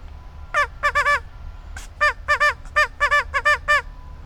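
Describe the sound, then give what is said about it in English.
A loud run of nasal duck quacks blown on a duck call at ducks, in quick rhythmic clusters of two to four with short pauses, over faint background noise and no talking. “And I'm going to give these duckies the quack.”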